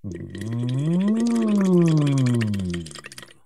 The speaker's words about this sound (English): Blow some bubbles into that water. Next, sing through that straw.